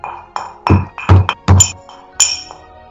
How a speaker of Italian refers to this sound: Battimi sul petto e vedrai se sono perfetto. Forza, prova a bussare.